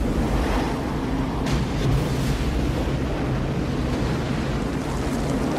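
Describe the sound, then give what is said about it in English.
Heavy surf from a 50-year storm roars continuously, closed-out waves crashing and churning with gusty wind noise buffeting the microphone, a dense, loud wash of water with no clear breaks between breakers. “Finally get your waves and it's totally closed out.”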